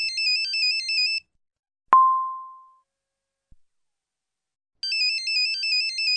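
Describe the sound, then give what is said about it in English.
A mobile phone's electronic ringtone trills a bright, warbling melody, stops, then starts again after a pause; in between comes a single sharp ding that fades out and a faint click. No one speaks. “Oh, where's my phone?”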